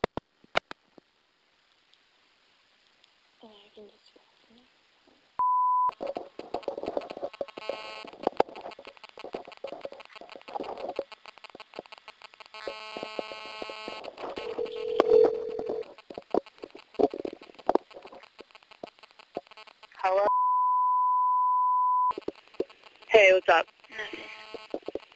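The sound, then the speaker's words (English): A second telephone call attempt, at 4:26 p.m.: a short beep, then a long stretch of crackly, busy line noise with muffled voices, a steady held line tone, and more noisy line sound after it. “Second phone call attempt at 4:26 p.m.”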